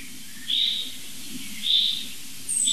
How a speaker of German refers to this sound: Also das ist jetzt für mich eindeutig so ein Alarmmuster jetzt. Es sind immer drei Vogelarten interessiert. Boah, das holt sie wieder mal schärfer.